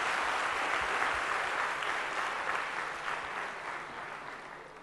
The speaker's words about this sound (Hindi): हम सब जोर से करतल ध्वनि देकर उनका तालियों से.